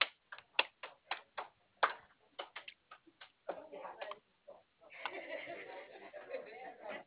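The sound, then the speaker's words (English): Rapid typing on a computer keyboard as a caller's last and first name are entered to look up an account, a run of sharp clicks in irregular bursts, followed by a stretch of muffled, garbled sound that may be faint voices. “So let me, I typed your last name in and your first.”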